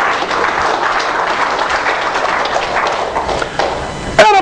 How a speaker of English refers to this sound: Give Him a hand of applause in His house.